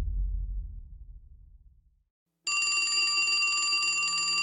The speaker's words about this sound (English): The phone in the grimy office rang. Leonard answered it on the first ring.